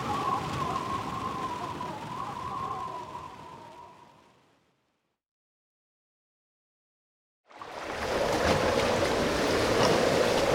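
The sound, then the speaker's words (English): Rough ocean waves off Montauk, New York churn and crash into one another, frothing white and spraying mist, in a dense, steady roar that fades away into silence, then the loud surging water rushes back in a few seconds later. “The waters off Montauk, New York surged, frothing white as waves crashed into one another, spraying mist through the air.”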